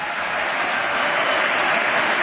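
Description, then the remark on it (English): Steady, dense applause with cheering from members of Congress during a speech by George Bush, a broad hissing wash of clapping that stays loud and even throughout. “Give them a chance to cheer.”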